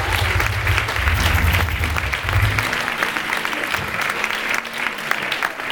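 An audience claps steadily, a dense wash of many hands with scattered sharper claps, sustained and fairly loud throughout, with a low rumble underneath at the start.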